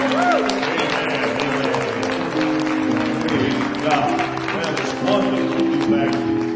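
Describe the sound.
An audience at the Crystal River Church of God applauds steadily for several seconds, giving the Lord Jesus a round of applause: dense clapping while voices cheer and call out over sustained musical tones underneath.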